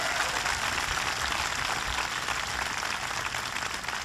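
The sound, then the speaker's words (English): An audience at Macomb college claps steadily for about four seconds for the college president, Jim Jacobs, a dense, even wash of hand claps with no voices over it and no rise or fade in loudness. “Give Jim Jacobs a big round of applause.”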